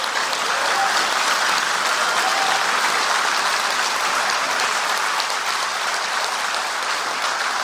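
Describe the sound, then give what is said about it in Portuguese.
A big round of applause from a crowd for federal public servants, dense and steady clapping that holds at a loud, even level for the whole stretch without pausing, with no voices standing out. “E a grande maioria dos servidores públicos federais, presidente, tem essa missão, tem esse propósito público, e eu acho que eles merecem uma grande salva de palmas de novo aqui.”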